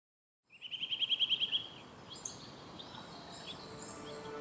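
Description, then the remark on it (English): Birds calling outdoors: a rapid series of about ten bright chirps, then fainter scattered tweets and whistles over a soft ambient background. No one speaks. “To you, those birds might just sound like nature in the background.”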